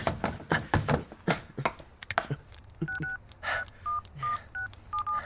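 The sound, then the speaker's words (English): A phone number is dialed on a cell phone: a series of short, clear touch-tone beeps in an uneven rhythm, preceded by a few seconds of sharp clattering and rustling. “You make your phone call.”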